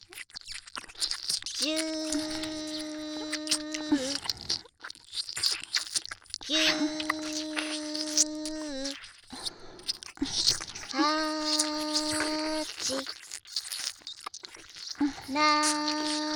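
Wet ASMR ear-licking mouth sounds, soft smacks and slurps running throughout, broken by four sustained, steady-pitched vocal tones, each lasting a couple of seconds.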